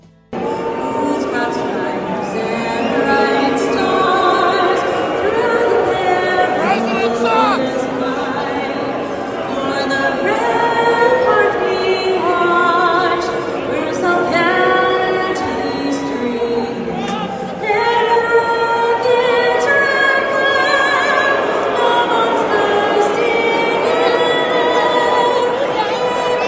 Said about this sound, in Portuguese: E como aconteceu no jogo de hóquei entre a equipe do Anaheim Ducks dos Estados Unidos contra o Vancouver Canucks na Rogers Arena, vaias para o hino norte-americano durante a sua execução.